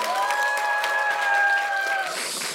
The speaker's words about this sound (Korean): 자, 다시 한번 페이머스에게 큰 박수 부탁드립니다.